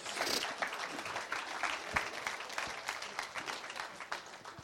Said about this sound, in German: Okay, super, dann kriegst du einen ganz fetten Applaus.